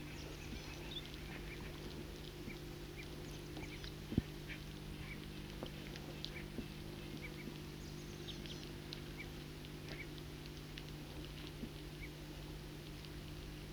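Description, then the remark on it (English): A foraging flock of several birds in a tree calls softly and almost constantly, with scattered short chips and chatters over a steady low background hum, the birds often fighting among themselves, and one brief sharper sound stands out. “circling from underneath a tree in which there's a foraging flock of several birds. And they are calling softly and often fighting among themselves.”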